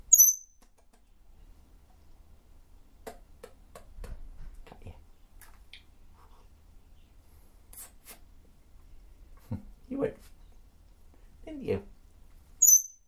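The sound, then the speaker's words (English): A pet bird perched on a person's shoulder gives scattered short chirps and squeaks over about thirteen seconds, with soft scratchy rustling, faint low murmurs and a few quiet vocal sounds in between. “You're a funny bird today, aren't you?”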